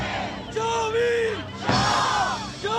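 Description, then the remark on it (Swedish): A crowd of demonstrators protesting at a football arena shouts loudly, screaming themselves hoarse, with long, strained bellowing cries rising over a dense wash of voices in two main surges. “Så hör jag liksom det här dånet av trummor och liksom demonstrationer och folk som skriker, liksom skriker sig hesa då.”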